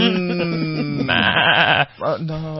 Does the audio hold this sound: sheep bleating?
yes